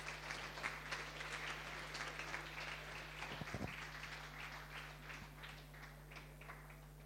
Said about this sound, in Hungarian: valaki közülük, ha itt van, gratulálunk, egy tapsol nekik is.